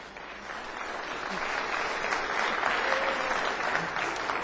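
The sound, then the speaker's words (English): Steady audience applause for people being given prizes for coming every week, a dense wash of many hands clapping that swells slightly after the first second and holds at an even level throughout, with no voices standing out. “I think these ones deserve a round of applause.”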